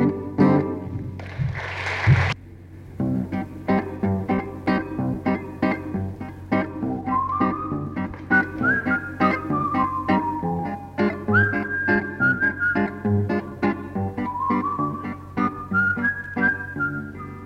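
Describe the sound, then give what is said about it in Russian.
A person whistles a flowing melody with gliding, rising and falling notes over steady instrumental accompaniment, after a brief noisy burst at the start. No one speaks. “Ты что, мой друг, свистишь, мешает жить Париж?”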